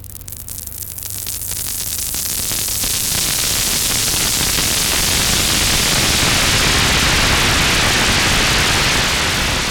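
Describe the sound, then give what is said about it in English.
Synthesized crackling noise imitating deep frying, made by using noise to modulate another sound so it wobbles, starting with a low hum and quickly swelling into a dense, loud, sizzling hiss that fizzes steadily to the end. No voices. “This is this is using noise to modulate, make something else wobble about, which makes it sound like you're frying something.”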